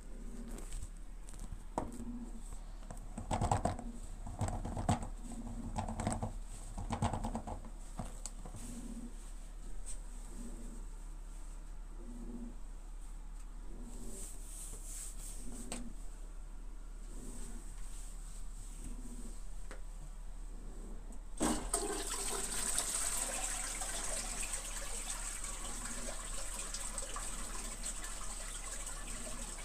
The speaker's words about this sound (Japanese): 1日目の寝る前のおしっこです。